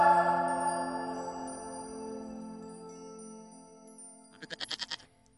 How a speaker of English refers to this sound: get that goat out of here.